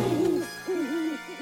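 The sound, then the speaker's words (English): Two owl hoots in quick succession, each a low, wavering call with a slight warble, clear with no talking around them. “You're an owl.”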